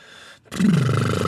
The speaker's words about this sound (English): Spin the salad spinner, which sounds like my farts